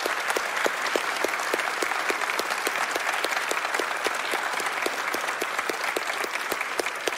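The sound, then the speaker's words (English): A church audience applauds steadily to thank God for a person, many hands clapping in a dense, sustained patter with sharper individual claps standing out, filling the room at an even level for several seconds. “So by applause, I want you to thank God for that person.”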